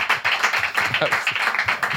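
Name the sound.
applause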